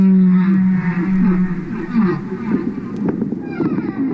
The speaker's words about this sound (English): He's at home in landlocked Vermont, listening to the songs of his beloved humpback whales in a wood-paneled living room. And that sort of theme evolves as the whale sings it.